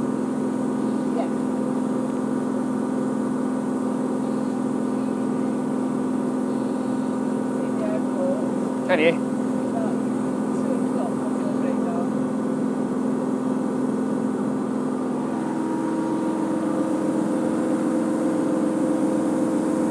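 Steady motorboat engine drone throughout, with a brief thud midway as the hull bounces over a wake, and the engine pitch shifting near the end as the boat settles back.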